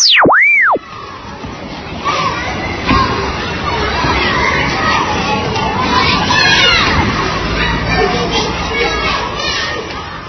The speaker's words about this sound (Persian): اگه گفتین اینجا کجاست بچه ها؟ ها؟ بهتون بگم؟ خیلی اینجا شهر بازی، عجب شهر بازی هم هست، جات میخواهیم پر از اسباب بازی های خوشگل و هیجان انگیز.